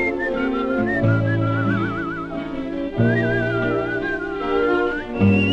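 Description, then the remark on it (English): Melodic whistling with vibrato glides smoothly over a full instrumental accompaniment, carrying a slow, lyrical tune up front in the mix. “who wasn't an instrumentalist, was able to, you know, work as if he were a horn player when he whistled, and he does it very well, very, very musical.”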